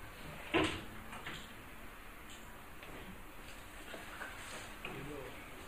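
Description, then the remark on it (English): A single sharp knock of a door being moved near the start, followed by faint rustling and muffled background activity. “Can I keep the door open?”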